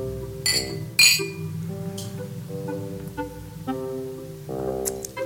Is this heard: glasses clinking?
yes